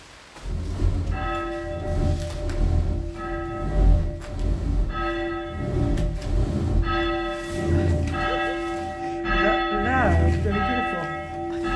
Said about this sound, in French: Voilà, j'ai tiré un peu fort. Donc, nous avons... Voilà. Voilà. Eh bien, je suis très contente parce que j'aurai pour la première fois de ma vie sonné la cloche.